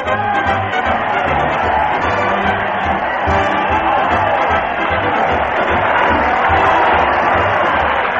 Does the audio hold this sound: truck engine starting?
no